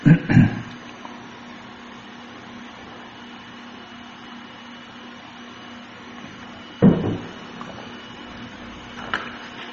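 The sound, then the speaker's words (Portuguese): Someone pausing to drink water: a couple of short clunks and gulp-like bursts, one at the start and another a few seconds later, over a steady low electrical hum with no talking. “Peraí, deixa eu tomar água.”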